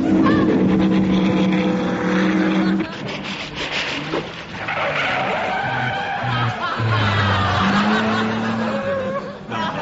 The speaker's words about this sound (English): And over there on the oyster beds, Formula 2 car racing.